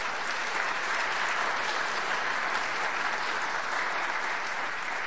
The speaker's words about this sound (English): We can clap for them as well.